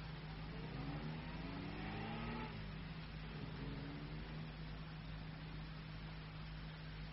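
A car engine revs and accelerates as the car drives off with departing passengers, its rising harmonic whine climbing in pitch for a couple of seconds before the drone settles and fades into a steady low rumble.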